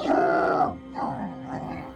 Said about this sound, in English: Before he could scurry in the direction of the hare, he heard a low growl and rumble.